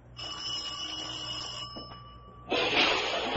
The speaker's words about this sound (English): Oh, I think this is the doorbell.